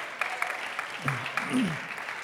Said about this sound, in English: Clap your hands if you believe with me today. Amen.